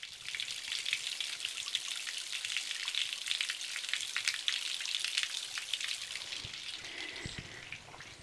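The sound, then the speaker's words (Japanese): Spring water trickles steadily for several seconds beside a gently sloping path, a bright, crackling hiss with tiny splashes and an even level throughout, with no one speaking. “こんな湧き水もありますね。”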